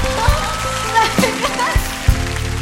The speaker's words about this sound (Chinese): 呀！掌声鼓励。